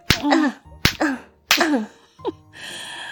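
Three sharp, snapping whip lashes strike someone at a steady pace, each followed by a short pained vocal cry, then a brief yelp and a soft hiss at the end.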